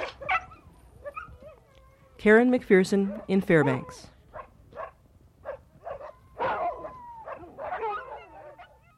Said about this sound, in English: But it isn't only the big-name mushers who are happy about the snow and preparing for the racing season. Dogs and mushers alike are howling all over the frosty woods these days.